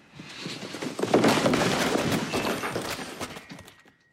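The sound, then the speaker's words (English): In a TV drama scene, the character Will Gardner angrily knocks everything off Alicia's office desk. The objects fall in a loud, sustained burst of crashing and clattering, with dense overlapping thuds and rattles that build quickly and then die away after a few seconds. “In the episode where Will found out, he entered her office to confront her and quickly got so angry he knocked everything off her desk.”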